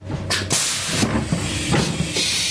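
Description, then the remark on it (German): An S-Bahn commuter train stands at Wädenswil station on the left shore of Lake Zurich, letting out loud bursts of hissing air over a low rumbling engine hum, with rail clatter in the background and no voices. “Ankommen am Bahnhof Wädenswil. Die Leute, die hier aus der S-Bahn aussteigen, die gehören wie alle am linken Zürichseeufer zu den Profiteuren der neuen Durchmesserlinie.”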